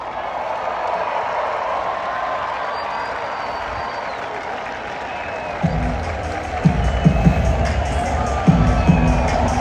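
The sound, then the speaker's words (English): A large crowd of Indiana fans roars and sings the school song together at an Illinois football game, with rhythmic clapping and thumping beats growing louder in the second half over a steady wash of cheering voices. “And that celebration you hear of the, you know, Indiana fans singing the school song with their fans or whatever they're clapping to right now, that's hard to watch, man.”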